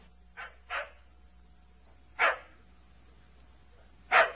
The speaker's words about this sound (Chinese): 有一天，南丁格尔经过了牧场旁边的小库房，却听见了里面传来了一阵阵狗儿在那儿哀鸣的声音。